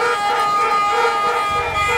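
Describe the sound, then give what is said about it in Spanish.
Ship horns sound in a steady, overlapping drone, their layered tones holding at an even, fairly loud level over a low rumbling background from the naval base in a port, part of a music work for 11 ensembles spread across ships, cars and orchestras at different points of the port. “Es una música para 11 ensambles divididos en barcos, autos, orquestas en distintos puntos del puerto y los sonidos de la base naval.”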